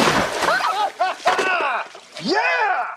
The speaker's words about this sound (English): The pool cleaner leaps out onto the poolside.